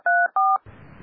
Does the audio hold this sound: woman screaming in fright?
no